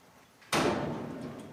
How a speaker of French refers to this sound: Ils poussent délicatement la porte d'un hangar métallique.